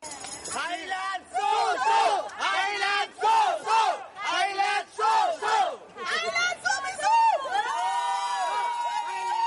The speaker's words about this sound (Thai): ยกย่องชมเชยกองเชียร์ไทยที่ส่งเสียงเชียร์ดังไม่หยุดตลอด90นาทีถือเป็นสีสันที่โดดเด่นในการแข่งขันฟุตบอลหญิงชิงแชมป์โลกที่แคนาดาในครั้งนี้